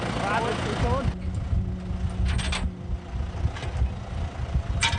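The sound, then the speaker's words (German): A tractor engine chugs steadily with a low, throbbing rumble as the tractor manoeuvres, hitches a trailer carrying glass recycling containers and drives off; a voice is briefly heard over it at the very start. “… rangiert kurz mit seinem Traktor, spannt den Wagen an die Anhängerkupplung und tuckert davon.”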